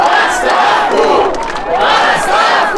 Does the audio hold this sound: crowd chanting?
yes